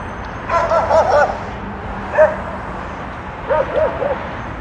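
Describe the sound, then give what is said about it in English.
A dog hanging out the window of a van going down the street barks in quick clusters, a rapid string of yaps, then a single bark, then another short run, over a steady wash of street and engine noise. “Dog hang out the window van going down the street, just barking.”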